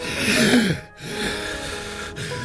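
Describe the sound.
A voice imitates odd, irregular breathing, with a strained, gasping inhale, a brief catch of silence, then a longer uneven breathy exhale, close and fairly loud.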